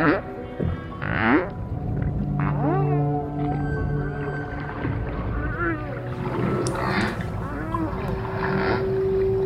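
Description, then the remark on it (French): A string of whale calf cries, rising and falling tonal whoops and sweeps in quick succession, with a steady low hum and some surface noise underneath. “Ça, c'est un enchaînement de cris d'un bébé, hein, d'un baleineau.”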